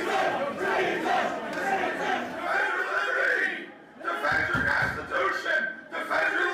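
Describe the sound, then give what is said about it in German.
A large, angry crowd of Trump supporters marching on the US Capitol in Washington shouts in unison, chanting "Treason" and "Defend the Constitution" loudly and continuously, with overlapping voices and cheers throughout, dipping briefly before the chanting surges again. “Ja, die schreien eben Treason, also Verrat, und sie schreien eben Defend the Constitution.”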